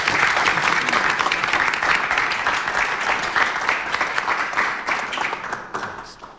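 An audience applauds steadily, a dense wash of many hands clapping at once, holding strong for several seconds before gradually thinning and fading toward the end.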